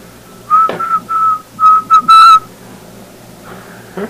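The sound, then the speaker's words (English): A steady, clear whistle tapped out as Morse code for okay: a quick run of long and short whistled beeps, fairly loud, with nobody speaking. “And at some point, for some reason, I thought, well, I wonder if he could learn to recognize that in Morse code. So I started whistling to it.”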